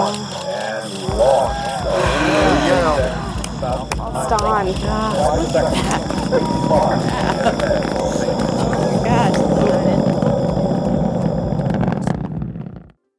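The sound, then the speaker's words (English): A crowd at Cape Canaveral, Florida, cheering and shouting as a rocket launches, many overlapping voices above a steady low roar that holds loud for about twelve seconds before cutting off abruptly. “The sound of Cape Canaveral, Florida, is a crowd watching a rocket launch.”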